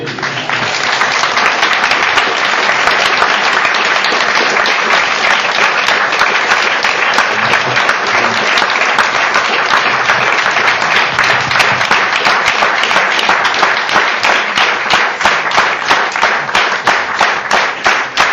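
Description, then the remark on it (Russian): Sustained audience applause, a dense, steady wash of many hands clapping at an even loudness for about eighteen seconds, with no voices rising above it. “Которым удалось пробудить расу, тоже так хлопают.”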